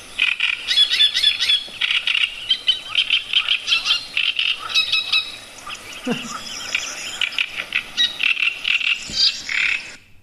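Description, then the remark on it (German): A person imitates a great reed warbler's song: harsh, grating chatter of repeated croaky phrases, loud, running continuously for about ten seconds with only brief pauses. “Und der Drosselrohrsänger, das kann man, finde ich, sich eben gut merken, weil er auch der größte Rohrsänger ist”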